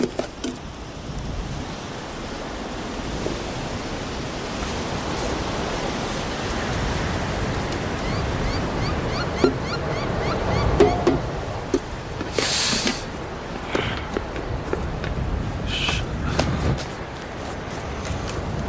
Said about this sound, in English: Oh shit, dude, I'm sorry. Goddamn wind.